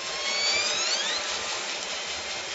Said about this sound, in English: But in that recording, you also hear the sound of boats, and that raises concerns.